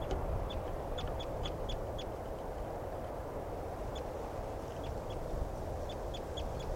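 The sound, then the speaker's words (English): A male bird, one of a male-female pair, calls in bursts of short, high-pitched notes, several quick chirps in each run, repeated over a steady, loud rumbling background noise. “Recording the mail again.”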